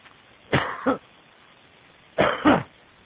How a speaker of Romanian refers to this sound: Iartă-mă. Am tușit pentru că a luat dă-i drumul.